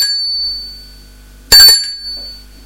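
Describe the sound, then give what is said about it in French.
A doorbell rings twice at the right-hand door on the second floor of an apartment building: a bright, high-pitched tone already fading at the start, then a sharper, louder ring that quickly dies away into near silence. “Et sonne à la porte de droite.”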